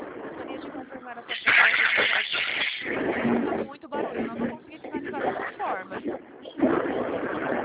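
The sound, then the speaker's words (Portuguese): Steady rumbling engine and road noise inside a moving bus, loud and continuous with surging swells, muffled and narrow as if heard over a phone, with faint indistinct voices underneath. “Está muito barulho para mim, eu não estou conseguindo falar dessa forma. Mas eu estou no ônibus.”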